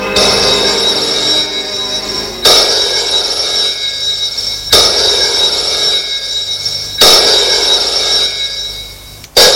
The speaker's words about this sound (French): La sonnerie du téléphone retentit chez Charles